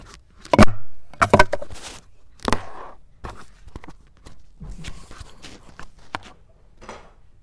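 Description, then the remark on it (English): A door is opened: a few sharp clicks and thumps of the latch and handle, followed by soft, uneven footsteps. “if you like we can open the door.”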